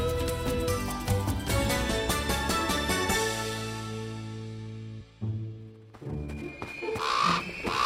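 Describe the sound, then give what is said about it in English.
A raven gives a few harsh caws near the end, heard over a busy bed of sustained orchestral music that fills the whole clip. “Follow that raven!”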